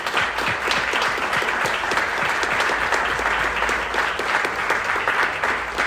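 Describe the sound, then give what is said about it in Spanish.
Sustained applause from a sizable audience for the IT teams, developers, engineers and technicians of the Ministry of Public Health and AGESIC, a dense wash of many hands clapping steadily and fairly loud for about six seconds, with no voices standing out. “a los equipos de tecnologías de información del Ministerio de Salud Pública y de AGESIC, a desarrolladores e ingenieros y técnicos, sin quienes hoy no habría desarrollo alguno, así que me gustaría que les demos un fuerte aplauso en este momento.”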